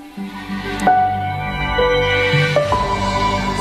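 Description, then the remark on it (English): The Amazon Prime streaming-service logo jingle plays clearly on its own, with sustained swelling tones and two bright accented hits about two seconds apart, building to a held final chord. “And that's the Amazon Prime logo.”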